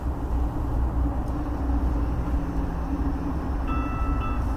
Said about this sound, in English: there's the train. Oh well, I'll have to catch the next one then.